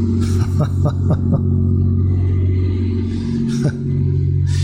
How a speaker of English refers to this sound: There's one right behind me right now. It's a little cruising around. See this one down here in the lower, making a lot of noise. I think it's being run on lawnmower engines. Thing makes more noise than Fauci.